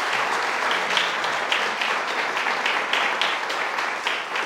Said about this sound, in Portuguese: Se você acredita nisso, dê um glória a Deus e aplauda ao Senhor. Glória a Deus.